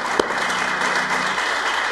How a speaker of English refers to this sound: All right, let's give the Lord a hand, can we? Clap your hands, all you people, make a joyful noise unto the Lord.